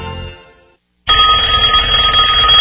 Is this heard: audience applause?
no